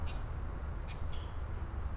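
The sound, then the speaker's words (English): A bird calls several times in thin, high whistling chirps, fairly faint, over a steady low mechanical rumble, outdoors on a sunny, breezy, warm day of about 20°C (70°F); no one speaks. “I thought I heard something. Oh, maybe it was just that bird.”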